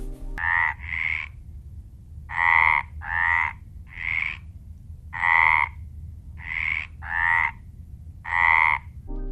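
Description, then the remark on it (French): A spadefoot toad calls about nine times, muffled clucking croaks often coming in quick pairs with short gaps between, clear and fairly loud over a low, steady background rumble. No one speaks. “Ils émettent un chant caractéristique, une sorte de bruit étouffé ressemblant au caquettement d'une poule.”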